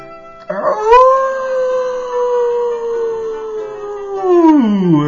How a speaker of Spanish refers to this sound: «Tú no eres amigo. No eres más que un adulador que mueve la cola», aulló el lobo.